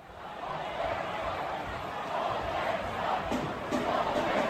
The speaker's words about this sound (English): Did you hear how the Coyotes ended their final season in Phoenix, actually in Tempe? Let's listen to the chants from the crowd.